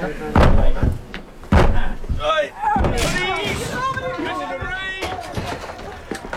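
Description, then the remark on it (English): A door is broken down by a group of men with two or three heavy, booming bangs, followed by a stretch of raised, agitated voices and general commotion. “Okay, men. Break down the door.”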